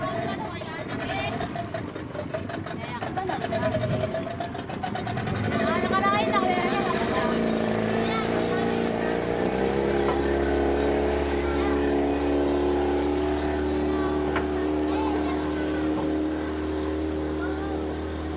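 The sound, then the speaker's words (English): A small motorboat chugs steadily to shore at Washington through a narrow channel blasted through coral, its engine drone continuous, swelling a little louder partway through over a low, rumbling churn of water. “make the trip to shore through this narrow channel that had been blasted through the coral at some point and into which the waves now pound the shore unremittingly.”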